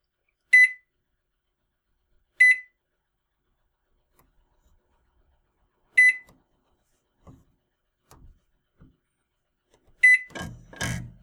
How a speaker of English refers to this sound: Yeah, push anything, cancel, don't start the microwave.